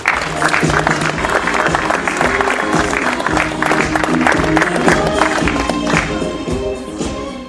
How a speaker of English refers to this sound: On behalf of the 2,600 people we serve at Desert AIDS Project, thank you for joining us this evening as we mark World AIDS Day. Please join me in giving another round of applause for all of our everyday heroes.